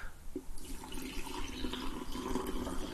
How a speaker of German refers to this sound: Das Geräusch ist einfach nur mega geil. Das, also, frischen Kaffee einschenken, eine feine Sache.